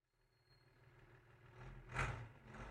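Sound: bus engine idling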